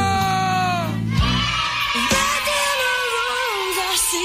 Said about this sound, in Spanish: El grito.